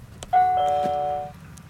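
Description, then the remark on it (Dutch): A modern doorbell rings a clear two-note ding-dong chime, its bright tones overlapping and ringing out for about a second before fading. The chime is moderately loud, with no talking. “Een hele moderne bel.”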